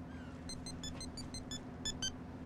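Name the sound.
mobile phone ringtone ringing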